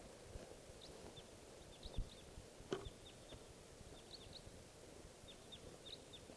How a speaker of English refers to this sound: there's a wild type 4 crossbill around here. And it's coming into the decoys now.